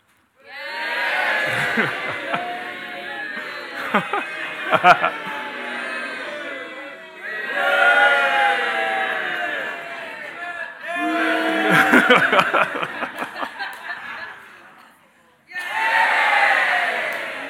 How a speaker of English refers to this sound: To illustrate this, we're going to actually play a little game where I'm going to show you some images. If you like what you see, just give a big cheer. If you don't like it, you just go boo, right? So let's give it a go.